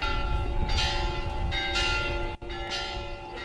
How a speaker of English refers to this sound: Bells ring and many mourn as funerals are being held in Serbia on Saturday for some of the victims of two mass shootings that happened in just 2 days this week